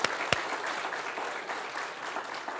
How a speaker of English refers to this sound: And whether you know it or not, you need to be standing and giving him the praise with everything that you got in your heart. Can we give him a hand clap of praise this morning?